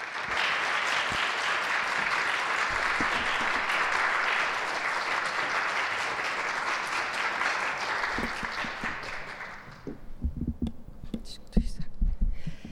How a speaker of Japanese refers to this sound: では歓迎の意味を込めて大きな拍手を持って迎えましょう。